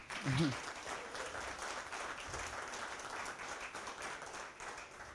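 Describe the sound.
Sustained applause from a crowd, a dense steady patter of many hands clapping at even loudness throughout, with a brief voice near the start.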